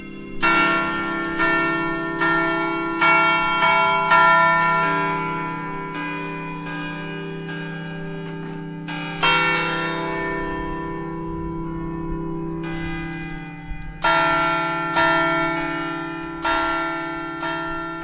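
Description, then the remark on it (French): Large abbey bells at Fontevraud ring a specially composed chime in a slow, melodic sequence of strikes, their deep tones overlapping and sustaining, heard close and loud in the abbey gardens right beside the newest bell, with no voices. “Et en effet, elles sonnent et je dirais on a été même plus loin, puisque chaque année, un compositeur est invité à composer une sonnerie spécialement pour Fontevraud.”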